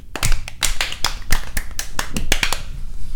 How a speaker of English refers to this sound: Double clap.